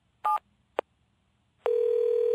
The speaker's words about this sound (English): Mr. Williams picked up the phone and dialed his home number.